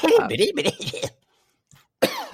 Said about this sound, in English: That made me cough just hearing, thinking of her voice.